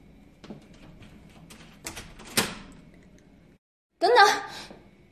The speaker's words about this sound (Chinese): 你是在锁门吗？你竟然把门反锁了，有点不对劲啊！